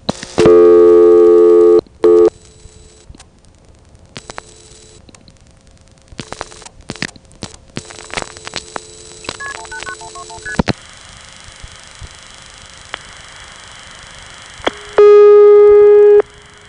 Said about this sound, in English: Now here's a call to 189-121, made at another time in 1978. This time, the ringtone sounds more normal.